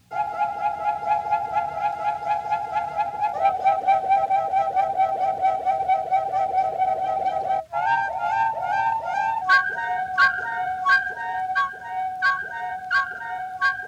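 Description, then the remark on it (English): John Wummer, first flutist of the Philharmonic, holds long, steady notes on his gold flute in a recorded duet while a canary trills and warbles rapidly alongside it, the two voices intertwining at a fairly loud level with no talking. “Would you like to hear the first flutist of the Philharmonic together with a canary bird?”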